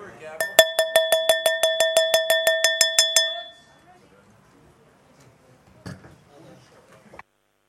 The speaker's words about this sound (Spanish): I'm glad the bell reminds you.